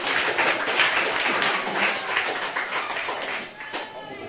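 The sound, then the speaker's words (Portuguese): Steady applause from an audience for Jesus in the evening, many hands clapping in a dense, continuous crackle that holds at an even loudness for several seconds before dipping briefly and resuming. “Uma salva de palmas para Jesus essa noite.”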